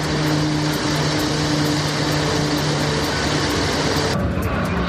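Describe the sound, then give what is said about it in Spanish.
A loud, steady mechanical roar of water-bombing planes, helicopters and motor pumps fighting the Begís wildfire in Castellón, Spain, which has burned more than 13,000 hectares, with low humming engine tones running throughout and the hissing upper noise thinning out near the end. “Estamos escuchando los hidroaviones, los helicópteros y las motobombas que trabajan a esta hora para evitar que las altas temperaturas actúen de combustible en un incendio que ya ha arrasado más de 13.000 hectáreas.”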